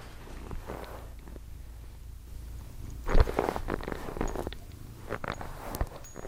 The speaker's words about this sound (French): Un chat qui se frotte au micro. Je trouve ça agréable. Un beau chat noir.